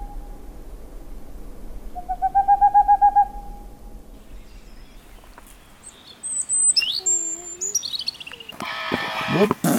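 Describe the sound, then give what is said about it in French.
A small owl, about 20 cm long, in the old forests of the Ardèche plateau, France, gives a quick run of about eight soft, even hoots, followed by scattered birdsong and a brief rustling burst at the end. “Elle a un nom compliqué, mais elle est toute petite. Elle mesure à peu près 20 cm.”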